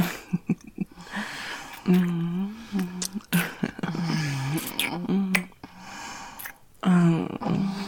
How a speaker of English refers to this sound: Oh, that little gasp there was great.